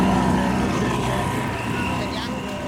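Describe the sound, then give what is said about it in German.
A small boat's auxiliary outboard motor drones steadily, a continuous loud engine hum with a low buzzing rumble that holds even throughout, with a voice faintly audible underneath, as the boat hurries across the Canale di Giudecca. “schmeißt den Hilfsmotor an und eilig überqueren wir den Canale di Giudecca.”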